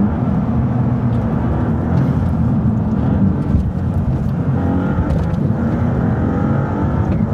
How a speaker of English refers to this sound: Loads more turbo whistle, a bit gruntier, less kind of tinny. And even from outside, oh, it's fast, this car.